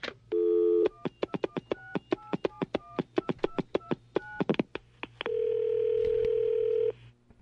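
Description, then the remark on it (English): A phone dial tone, then a quick run of about sixteen beeping keypad tones at varied pitches as a call is dialed to someone in Canada, then a long steady ringing tone on the line. No one speaks. “Let's call him.”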